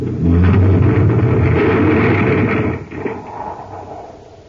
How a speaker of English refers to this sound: Oh, brace yourself. Our tunnel car is going to crash right into the debris.